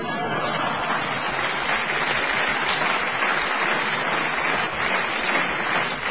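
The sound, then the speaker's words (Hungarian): Sustained audience applause, a dense, steady wash of many hands clapping at an even level for about six seconds, with no clear pauses and no single claps standing out. “Na most, jó van, ne tüntess, csak tapsolj.”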